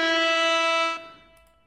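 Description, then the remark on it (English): A single loud air horn blast, a steady brassy blare that holds for about a second and then cuts off, leaving a brief fading tail. No one speaks. “That's an air horn.”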